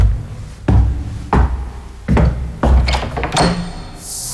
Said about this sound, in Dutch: En dit is de deur naar mijn platenzolder.